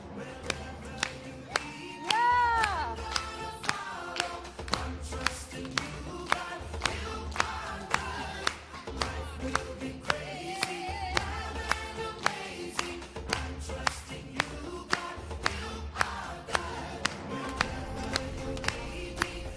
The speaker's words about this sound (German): Aber wir zeigen ihm, dass das geht, dass es mit dem Klatschen gut geht, oder? Dass wir den Song voll mögen, oder? Also, Kids, kommt nach vorne und wir klatschen voll mit.